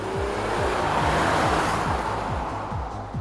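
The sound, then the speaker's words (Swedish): Cars rushing along a motorway at speed, heard while riding fast along the motorway from the airport with vans driving alongside, a steady loud roar of engines and tyres on the road with wind noise, continuous, no voices. “Alltså vi kör på motorvägen snabbt.”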